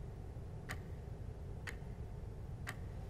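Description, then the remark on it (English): A wall clock ticks steadily, three sharp clicks spaced about a second apart, over a low, constant background hum. “A clock on the wall ticks.”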